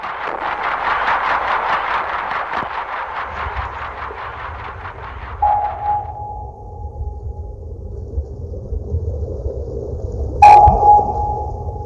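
Two sharp, high-pitched active sonar pings from a submarine, each ringing out in a long fading tone, over a steady low rumble, preceded by a pulsing mechanical throb at the start.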